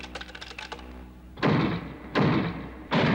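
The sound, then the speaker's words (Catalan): Rapid light mechanical clicking gives way to three loud, heavy booming blows, evenly spaced about a second apart, as a robot bashes a door open and enters. No voices. “El robot esbotza la porta i entra.”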